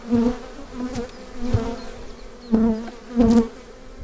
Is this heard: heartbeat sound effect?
no